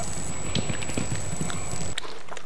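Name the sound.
horse hooves clip-clopping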